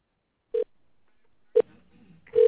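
Three short electronic telephone dialing tones sound about a second apart before a call, clear, with quiet line hiss between them and no one speaking.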